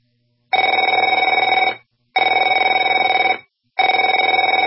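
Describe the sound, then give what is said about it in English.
A telephone rings in three loud, evenly spaced bursts, each a bright, buzzing electronic trill lasting over a second, separated by brief silences. No voices are present. “Afraid to answer it?”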